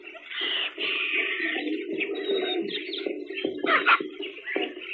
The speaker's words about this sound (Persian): صدای طرف خبر از یه پرنده میده.